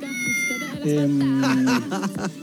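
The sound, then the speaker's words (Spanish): A cat meows loudly in a video sent in to Bio Bio TV, one long drawn-out cry framed by shorter wavering mews, with some voice-like sounds mixed in. “Hola, Bio Bio, me mandan el video del gato.”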